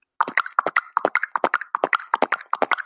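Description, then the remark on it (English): A voice does Foley work, imitating horse hooves clip-clopping with quick, rhythmic tongue clicks, steady, running for a few seconds with no talking over it. “Oh, I think I hear a horse.”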